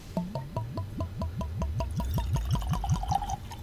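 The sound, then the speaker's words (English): A light-colored drink glugs steadily into a glass, a rapid rhythmic series of gurgles that rise in pitch as the glass fills, ending in a brief splashy trickle. “So, shall we pour a couple?”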